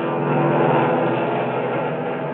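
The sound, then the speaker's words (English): A steady, droning roar from the propeller engines of a Japanese Betty 22 medium bomber in flight, holding an even loudness for a couple of seconds with a low, throbbing hum underneath and no voices. “That's the Japanese Betty 22 medium bomber. It's 30 miles an hour faster than our B-25 Mitchell. Look at that baby go.”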